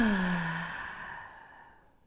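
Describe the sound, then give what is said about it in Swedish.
A single deep breath in and out, released as a long, audible sigh, with a voiced tone that slides downward and fades gradually into quiet. “Andas in. Andas ut.”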